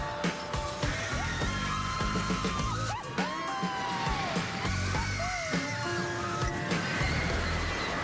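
A roaring amusement park ride, like a snowmobile coaster, rushes along steadily while riders let out several rising yells and whoops over the constant mechanical rumble and clatter.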